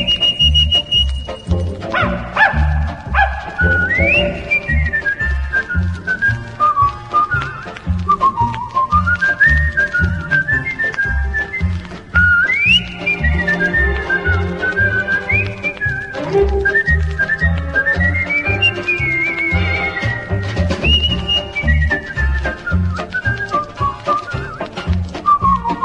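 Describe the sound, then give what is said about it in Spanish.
A bright whistled melody from a very old song winds up and down with sliding notes over a steady, rhythmic instrumental backing, playing loudly and continuously. “…”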